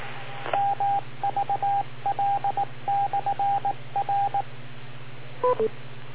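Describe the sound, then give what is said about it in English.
A click, then groups of short, evenly spaced electronic tone bursts, like dialing beeps, ending in a brief two-note beep, all over a steady low hum with no one talking; the call-in beep as a caller comes onto a radio call-in show. “Ah, the illustrious beep, which we have waited for.”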